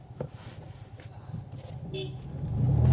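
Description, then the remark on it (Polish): A short car horn toot, honked at a small car on Woronicza street, rises briefly over steady road traffic, with a car engine rumbling and growing louder toward the end. “Jeden pozdrawia, drugi trąbi. Jak można trąbić na takiego malucha?”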